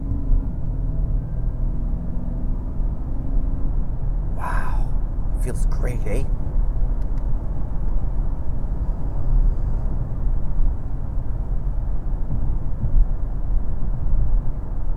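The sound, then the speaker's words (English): A 2011 car's engine drones steadily while driving and downshifting, a loud, continuous low rumble with faint rising tones early on. A man speaks briefly over it with a short exclamation. “It's a lovely, lovely car.”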